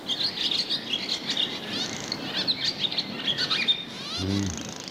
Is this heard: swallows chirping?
yes